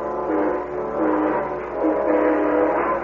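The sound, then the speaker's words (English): An eastbound steam train at a coaling station at Elmore Springs blows its horn in a loud, sustained, wavering chord over the rumble of the passing train, with no talking. “I rode up to the coaling station at Elmore Springs and flagged down the eastbound train that same afternoon.”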